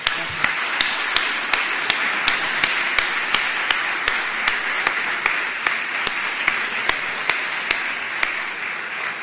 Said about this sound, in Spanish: Bueno, pues si no hay más preguntas, agradecer la amabilidad y la claridad tanto en la exposición como sobre todo en las respuestas, y creo que se merece un aplauso de todos nosotros.